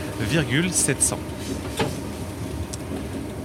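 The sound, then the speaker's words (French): A train coasts steadily along the rails with brakes released after its speed returned to normal, heading to a stop at the Bouble viaduct; a continuous rumble, a few brief higher-pitched tones rising over it early on and a couple of soft clicks later. “Voilà, donc maintenant que la vitesse est redevenue normale, on peut défréner, on se laisse glisser jusqu'au prochain arrêt.”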